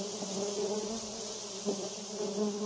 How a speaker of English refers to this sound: I do want you to think in the term of a bee, and the bee is buzzing. And the bee has a stinger. And this is the biggest bee that you've ever seen in your life. And he's buzzing all around your head.